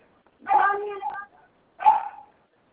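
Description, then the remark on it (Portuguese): A mixed-breed dog barks twice, first a longer, drawn-out bark, then a shorter one after a brief pause, with quiet in between and no talking. “Só um minutinho que meu vira-lata tá latindo.”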